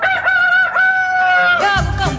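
A rooster crows once, loud and close, a long strained call that holds its high note for over a second before breaking off, with a burst of rougher noise at the end.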